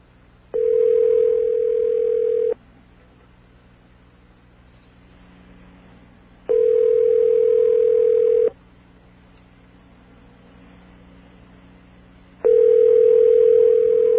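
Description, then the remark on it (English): A phone line rings three times, each steady electronic tone lasting about two seconds with roughly four seconds of quiet between, heard alone over a faint low hum. “Phone's ringing.”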